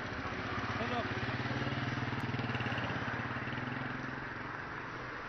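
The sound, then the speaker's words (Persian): A courier's motorcycle engine, ridden in cold winter, putters with a steady, throbbing rhythm, holding a fairly even level before easing off slightly toward the end as the courier rides away. “این پیک موتوری زحمتکش که در این زمستان سرد برای امرار معاش این کار سخت رو به عهده گرفته رفت و آرزوی ما برای اینکه همه با هم همدل باشیم و همراه هم بدرقه راهش.”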